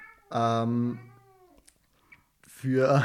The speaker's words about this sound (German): Sorry, wegen der Katze. Ist gerade ein bisschen nervig, aber einfach weiterreden.